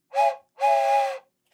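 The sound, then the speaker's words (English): A train whistle sound effect, cued for a cross-country train ride, blows in two loud blasts, a short toot followed by a longer held one, with a third blast just starting at the end; no talking. “You, Mom, are heading out on a cross-country train ride. Yes. Do you want to cue the sound effects over there?”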